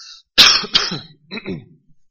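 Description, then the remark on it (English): A man coughs and clears his throat, two sharp bursts followed by a rougher, rasping throat-clear, all within a couple of seconds with no talking. “Excuse, I have a cough, and I don't believe it's contagious.”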